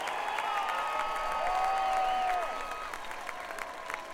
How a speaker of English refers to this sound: Big round of applause. Come on, let's give him a big round of applause. I want to hear these people. We can make more noise than that. Come on.